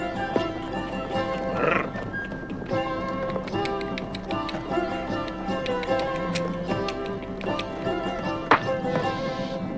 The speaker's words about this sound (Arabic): إنك تخيف الحمار هكذا؟